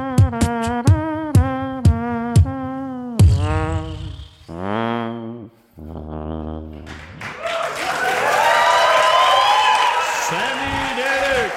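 Sung phrases and short musical notes from a live song at an MTV Unplugged session give way to a swelling wash of audience applause and cheering that fills the last few seconds, loud and sustained until the end.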